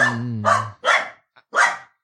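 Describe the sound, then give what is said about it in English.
A small terrier-type dog, like a little Jack Russell, lets out a drawn-out, high-pitched whine followed by three sharp, loud barks in quick succession, with no one talking; the lone dog is crossing a street. “It kind of is like a little Jack Russell-y guy.”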